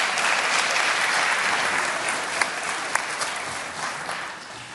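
Steady applause from a group, a dense wash of clapping that stays fairly even in loudness throughout, with a few sharper individual claps popping out near the middle.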